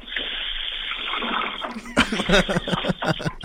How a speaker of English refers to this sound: Can you guys hear that? Yes, we can. Yes, we can. That's me pouring one out for Indiana fans.